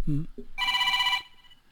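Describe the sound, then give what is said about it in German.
A telephone bell in a studio rings in one bright, rapidly trilling burst lasting about half a second, fairly loud, right after a brief bit of voice. “Telefon in Studio, nicht in Studio.”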